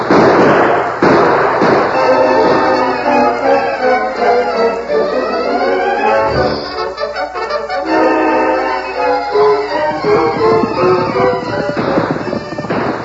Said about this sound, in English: Those shots are coming from the Indian camp, Thundercloud.